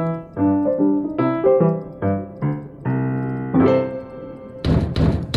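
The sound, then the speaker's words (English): In a radio drama, a short melodic musical phrase plays, then Nellie Bly knocks loudly on Joseph Pulitzer's door: a rapid burst of heavy knocks landing right at the end, several hard thumps in quick succession. “Why must you knock so loud? Stop! Stop with the knocking! Just open. Open the door!”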